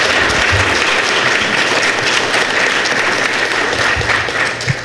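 A crowd claps steadily for about five seconds, a dense, loud wash of many hands with no pauses, holding an even level before tapering slightly at the end.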